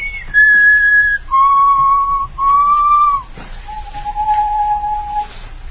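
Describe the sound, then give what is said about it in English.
Someone whistles a slow, simple tune of four long held notes that step downward in pitch, clear against faint background hiss, with no talking. “Just keep whistling.”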